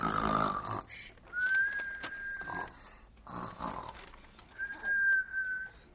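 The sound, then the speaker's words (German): Cartoonish snoring repeats in two slow cycles, each a raspy, rumbling inhale followed by a long, thin whistle on the exhale, fairly loud with no talking. “Nur das Bett schnarcht weiter.”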